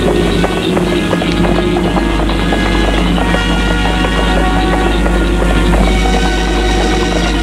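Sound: horse hooves clip-clopping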